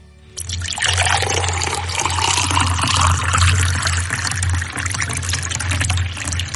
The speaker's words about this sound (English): I've got the Jug of Kintyre in my hand. Okay. Begin the pour.